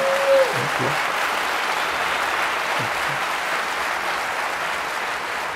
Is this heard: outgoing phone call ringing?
no